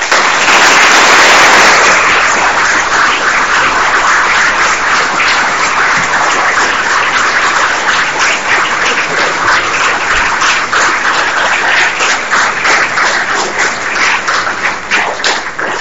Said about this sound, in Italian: Tutti meritatissimi questi applausi per la lucidità e l'ampiezza, diciamo, della prospettiva che ci hai mostrato, mettendo assieme non solo la storia ma anche, come dire, appunto un ragionamento politico di fondo che ci dà un orizzonte